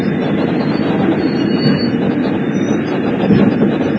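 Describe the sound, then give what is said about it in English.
A subway train with 18 doors rumbles steadily through a station, a dense, loud low roar with faint high-pitched wheel squeals threading above it, continuous for the whole stretch with no voices. “You can spread out while the train is still moving.”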